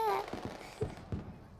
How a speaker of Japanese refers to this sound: あ、見て見て、今の花火マスコットキャラの形だったよ。え、見てなかったの？じゃあもっとよく見て。